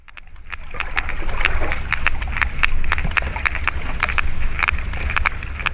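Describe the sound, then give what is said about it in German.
Sperm whale clicks: a series of sharp, dry clicks in uneven clusters, some quick runs and some spaced out, over a steady low underwater rumble and hiss. No one speaks. “Und ja, so klingen diese Geräusche, die dann so Pottwale machen.”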